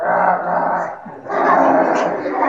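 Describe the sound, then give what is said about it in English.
A man's voice imitates a tiger's roar with two loud, sustained guttural growls separated by a brief pause. “তো বাঘ এইভাবে গর্জন করতে লাগলো।”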